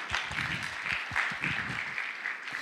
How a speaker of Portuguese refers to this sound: Top, gente. Uma salva de palmas para todo mundo que participou.